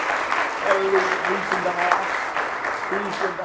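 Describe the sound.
An audience claps hands in praise of the Lord during an evening church service, a dense, steady burst of applause lasting throughout, with a few voices calling out faintly underneath.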